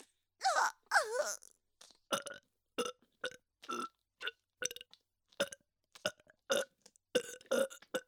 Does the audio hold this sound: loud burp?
yes